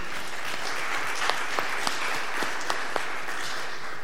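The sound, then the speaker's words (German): An audience applauds in thanks at the end of a presentation, before a question round: a dense wash of many hands clapping at an even level throughout, with a few sharper individual claps standing out from the crowd. “Erstmal mit Applaus und Dankeschön.”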